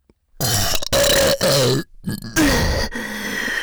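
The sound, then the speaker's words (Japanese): Several loud burps in quick succession, each a deep, drawn-out belch with brief pauses between them and no speech. “体内で変な化学反応起こってる。ゲップ止まんね。”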